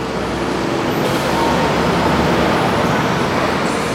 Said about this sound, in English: Imagine metal cars, trucks, and buses careening down the avenues, puffing clouds of carbon monoxide and other toxins into the air.